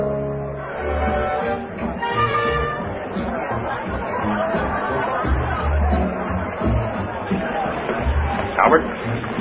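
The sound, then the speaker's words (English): Steady crowd chatter fills a busy restaurant, many overlapping voices blending into a continuous hum of conversation at a moderate level, with a brief clatter near the end. “Oh, it's a wonderful crowd.”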